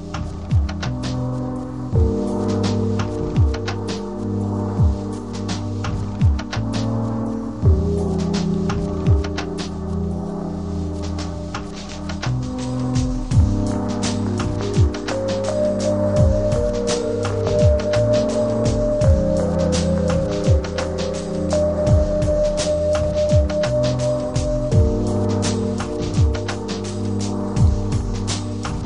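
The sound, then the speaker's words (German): Hectic instrumental music plays continuously, with dense layered tones and a busy stream of sharp percussive hits driving it along at a steady, fairly loud level, with no voices. “sei noch kurz angemerkt, von wem die Hintergrundmusik hauptsächlich war.”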